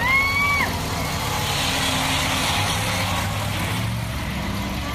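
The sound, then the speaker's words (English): Loud, steady roar of several heavy racing truck engines droning together as they make a warm-up lap around a track, with a brief high whine near the start and no voices. “A little warm-up lap. Some truck action.”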